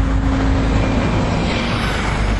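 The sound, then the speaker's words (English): Steady, loud road traffic rumbles by with no one talking, a dense low engine roar with a faint droning hum running under the whoosh of passing vehicles. “Well, I didn't beat the traffic by much, did I?”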